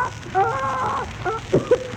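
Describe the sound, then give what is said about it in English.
A person imitates a squawking parrot, a pretty parrot called Polly: one drawn-out, wavering squawk followed by a couple of short, sharp squawks over a light background hiss. “look at that pretty parrot.”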